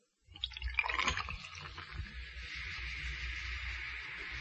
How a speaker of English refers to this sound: I've been sitting here for the last 48 hours with this open bottle, and I swear, under penalty of perjury, that this bottle has not been capped for the entire 48 hours. Now I'll just pour a glass here, and let's see if it's lost any of its fizz.